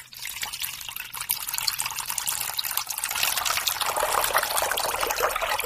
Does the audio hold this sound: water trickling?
yes